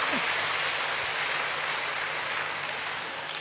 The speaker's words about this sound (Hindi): ताली बजाना भी सहज है। अच्छा है दादी, एक्सरसाइज होती है ताली बजाने से।